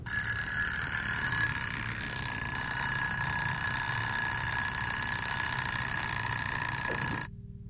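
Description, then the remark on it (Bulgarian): A shrill electric bell rings loudly and without pause for about seven seconds, then stops abruptly, leaving near silence. “Пронизително извънява звънец примерно 10 секунди и спира.”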